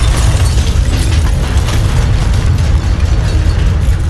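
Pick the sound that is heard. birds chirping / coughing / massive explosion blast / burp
massive explosion blast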